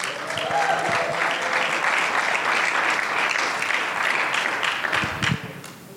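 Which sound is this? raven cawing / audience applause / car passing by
audience applause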